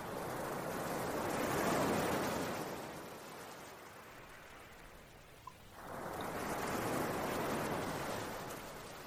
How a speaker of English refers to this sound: Attracting you to the sound of the streaming water. Hearing the various harmonious sounds of the water. Hearing the song of the water. Absorbing the pure energy of the music of the water.